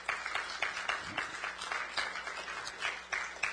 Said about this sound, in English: Come on, give yourself a hand clap right now.